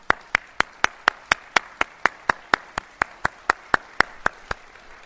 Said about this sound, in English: I do think, however, we missed one small item of thanks and applause, and that's for a terrific job by our feast coordinator,